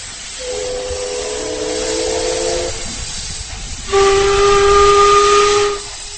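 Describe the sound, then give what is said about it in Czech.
A coal-fired paddle steamer on the River Elbe sounds its whistle twice over a steady rush of hissing steam: a mellow, chord-like first blast, then a louder, higher and brighter second one that cuts off sharply. “Jsou to jediné opravdové parní lodě na řece Labi, kde se parní kotel dodnes roztápí uhlím.”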